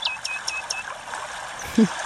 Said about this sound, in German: Und dort kann man Geräusche selber mixen. Also gefallen hat mir da sehr das Vogelzwitschern mit feinem Flussplätschern.